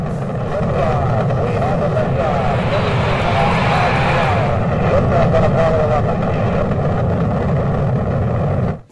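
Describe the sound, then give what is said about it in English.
A loud, steady roar of rocket engines at liftoff after a countdown to zero, with all engines running, deep and rumbling with a harsh crackling texture, holding constant before cutting off abruptly at the very end. “5, 4, 3, 2, 1, 0. All engines running.”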